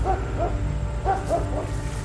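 Military dogs bark, a few short calls in two loose clusters, over a constant low droning rumble of airplanes that fills the background.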